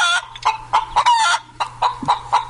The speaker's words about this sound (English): Now, of course, that may be a little bit unkind, putting the chicken sound effect in there.